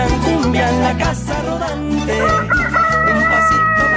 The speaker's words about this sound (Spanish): Menos mal que puse el gallo en hora. Vos sabés que se me había salido de hora el gallo, porque se te va corriendo un poco el gallo. A veces come pesado, se despierta un poco más tarde.